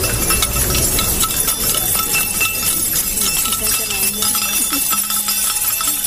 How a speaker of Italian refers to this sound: Al sit-in, per farsi sentire, anche il rumore delle chiavi, lo hanno chiesto le studentesse del liceo.